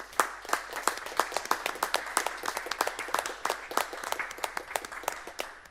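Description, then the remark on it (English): City Council members stand and give a round of applause to city staff in a council chamber, sharp irregular hand claps from a small group overlapping steadily for several seconds at moderate volume, with no voices over it. “Council to stand for a moment and give a round of applause to city staff who made it all possible for us to get through this.”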